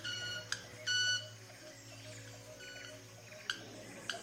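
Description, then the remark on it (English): A club-winged manakin's wing display at a lek, performed on an open branch: sharp clicks followed by a brief, ringing, violin-like buzzing tone, repeated a few times over a steady low hum and a soft bird chorus. “Club-winged manakin doing its display right in front of us here on an open branch.”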